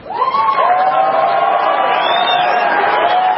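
A large audience at a panel debate between Michael Hayden and Judge Andrew Napolitano, moderated by Lou Dobbs, breaks into sustained applause mixed with cheering and a few whoops after the judge is called an unrelenting libertarian, a steady, loud wash of crowd noise from start to finish.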